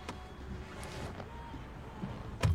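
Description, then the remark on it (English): A car door opens with a few sharp clicks and clunks as a passenger removes her seatbelt and gets out of a car pulled up in front of a pet store, ending in a louder thunk near the end, all over a steady low rumble of an idling engine. No one speaks. “She removes her seatbelt and gets out of the car.”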